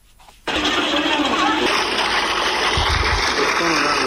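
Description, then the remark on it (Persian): Water suddenly bursts out of a water pump in the Naranj Bagh area of Jalalabad, Nangarhar, where people queue around it, after a brief quiet moment, then keeps gushing loudly and steadily, a dense, continuous rush with no pauses. “شماری از مردم در منطقه نارنجباغ شهر جلال آباد دور یک بمبه آب صف کشیدند.”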